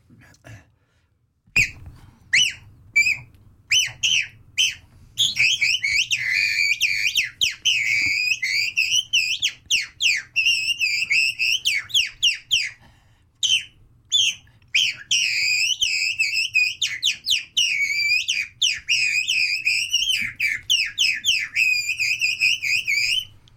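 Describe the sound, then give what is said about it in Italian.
A person whistles a skylark imitation, a call of the kind used as a lure in hunting: a long, rapid stream of high warbling trills, chirps and slurred notes, starting with short bursts then running almost continuously with brief pauses. “Ce lo devi dire, perché adesso faccio una lodola.”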